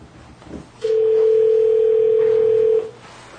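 A telephone dial tone sounds once, a steady unbroken hum holding for about two seconds before cutting off, over a quiet background murmur.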